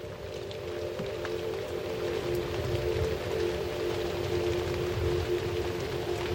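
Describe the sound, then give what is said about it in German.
Steady rain patters softly and continuously on huge, velvety leaves, some as wide as outstretched arms, a dense even hiss of drops with a low humming drone underneath, no voices. “Die leuchtenden Regentropfen gleiten daran herab.”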